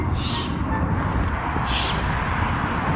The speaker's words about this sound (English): And here's some of the baby owls.